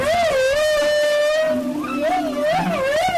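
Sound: whale song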